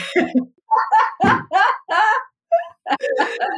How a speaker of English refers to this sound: This is real, y'all. This is real. Real life. 4-year-old toddler throwing a temper tantrum outside the door.